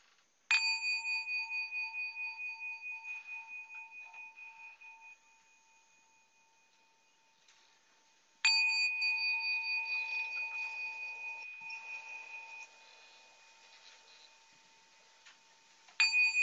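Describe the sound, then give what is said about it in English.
A meditation bell rings out clearly, with each long, shimmering tone slowly fading before the next strike. Two full rings are followed by a third strike right at the end. No voices are heard. “I'll ring the bell three times, and you can really let the sound of the bell wash over you.”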